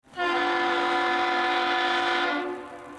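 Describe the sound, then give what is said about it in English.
The Aerial Lift Bridge horn sounds one long, steady blast of about two seconds, loud and reedy with a rich buzzing tone, before cutting off abruptly. No one speaks. “I played A and I played B, and I believe A is the lift bridge and B is the oar boat.”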